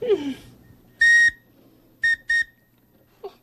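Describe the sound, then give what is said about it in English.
A small bird-shaped wooden whistle is blown three times: one longer steady tone followed by two short, quick toots, clear, with a brief faint voice sound at the start and end. “This is a wooden whistle. Why, it looks like a bird.”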